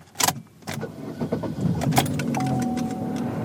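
Keys jangle and a few sharp clicks and thumps sound, then the engine of an Orange County social worker's car, driven 30,000 miles last year, starts and settles into a steady low idle, with a thin high chime tone running over it.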